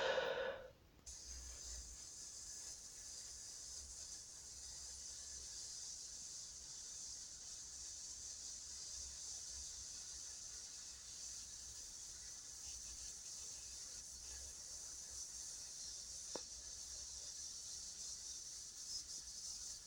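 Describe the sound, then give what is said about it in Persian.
A slow, steady exhale hissed out through clenched teeth with the mouth closed, the breath released little by little, a bright airy sound held almost unbroken for close to twenty seconds, with no talking; a 'hiss' breathing exercise for strengthening the diaphragm. “ما میشینیم، نفس میکشیم، دهانمون رو میبندیم و از پشت دندونامون با صدای هیس نفس رو کم کم خارج میکنیم.”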